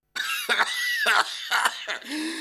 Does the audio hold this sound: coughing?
yes